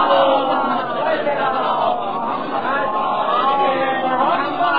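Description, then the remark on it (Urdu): A large audience loudly recites durood (blessings on the Prophet Muhammad) in unison, many voices blending into a sustained, rhythmic recitation with steady, dense sound. “ایک مطلب اور درود بھیجیں بابا سے بلند.”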